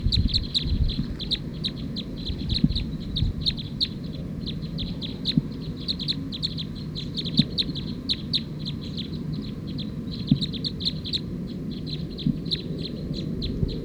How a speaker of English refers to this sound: So recording, those last two birds were mixed up. That was actually bird 220 that was calling as 219, stop.